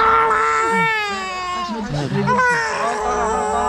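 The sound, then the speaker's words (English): A toddler, just uncovered from concrete rubble, wails loudly and continuously, the sustained crying rising and breaking into sobbing gasps midway before resuming its strained, high-pitched cry. “the cry of life.”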